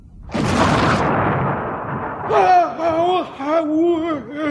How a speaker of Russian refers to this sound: Вдруг померк его свет. Колобок раздулся и стал огромным черным шаром. В нем вспыхнули лиловые жилы и грохнул взрыв.